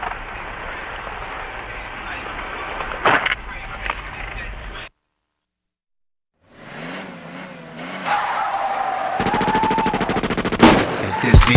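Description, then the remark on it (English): Muffled noise, a brief silence, then a car engine revs up and a loud burst of rapid gunshots rattles off in quick succession as the vehicle drives by. “I ride by and blow your brains out.”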